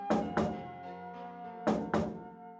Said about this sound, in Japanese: 一瞬何の音かわからず呆然としたが、すぐにそれが自分の部屋のドアをノックする音だと気づいた。応対しなければと思うより、いぶかしいと思う気持ちが先に立った。そのノックの音はまるでこの部屋に誰かいるのかを確認しているみたいだ。